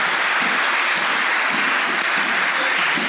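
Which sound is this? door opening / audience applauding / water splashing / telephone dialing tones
audience applauding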